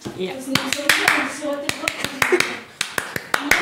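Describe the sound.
Sharp hand claps in the style used in Syrian schools ring out in an uneven burst, over a dozen crisp smacks at irregular intervals, while people talk underneath throughout.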